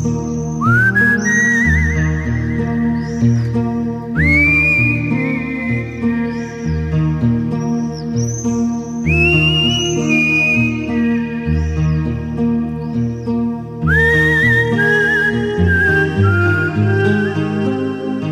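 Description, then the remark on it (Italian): A person whistles a tune in clear, sliding high notes, carried over a steady instrumental backing that plays throughout. No one speaks. “E sono sicuro che ora mio padre, da lassù, nel cielo, finalmente ride e fischia come solo lui sa fare.”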